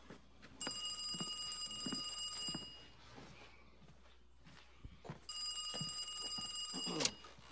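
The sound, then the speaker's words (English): A telephone bell rings twice in a house, each bright, trilling ring lasting about two seconds with a quiet gap between, over faint background noise and a soft clatter. “He sets the plastic cups down and walks to the phone.”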